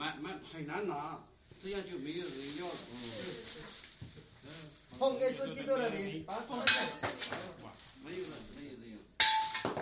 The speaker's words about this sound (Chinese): 我就是在砸偶像的时候，我一锤砸下去，我就坚定的相信了，我很坚决，我坚定的相信了。好，我们来看他砸偶像啊，就在他家里面。